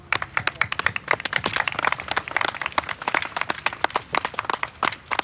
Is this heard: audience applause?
yes